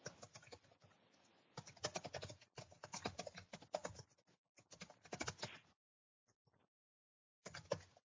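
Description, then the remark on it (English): Rapid, uneven clacking of computer keys being typed on, heard over an online video call, coming in bursts with short pauses and a longer silence before a final flurry. “I hear typing, but no voice yet.”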